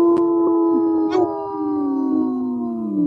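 Several wolves howl together in a sustained, overlapping chorus, their long wavering tones sliding downward toward the end, loud with no talking.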